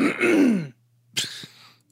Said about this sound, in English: clears his throat or coughs right into the microphone, drink. I know. I'm sorry. I gotta get. I should pause and get my my cough drops. I just got over another cold.